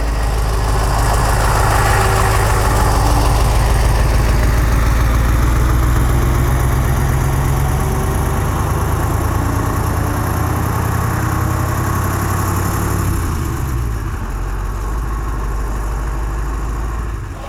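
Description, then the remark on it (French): A 12-metre bus engine idles with a deep, steady rumble and low vibration while the bus empties its waste water at the roadside, in a free camper-van service area in central Saint-Marcellin; its pitch drops slightly near the end, and no voices are heard. “Je suis à Saint-Marcellin, en plein centre-ville, avec un bus de 12 mètres en train de vidanger sur le bord de la route, dans une aire de camping-car prévue pour, gratuite.”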